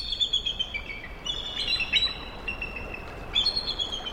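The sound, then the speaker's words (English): High, thin eagle calls ring out in a series of chittering, piping bursts, repeating in quick runs over a steady hiss of background noise. No one speaks. “At last, the eagles unlock talons and fly off, back into the sky where they could, perhaps, meet again for another dramatic bout of cartwheeling.”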